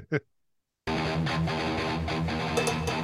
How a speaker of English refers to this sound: Cowbell.